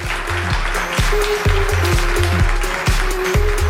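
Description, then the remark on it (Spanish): An audience claps steadily throughout, a dense wash of applause layered over loud music with a regular, thumping beat and bass. There is no talking. “Un aplauso, por favor, para el jefe.”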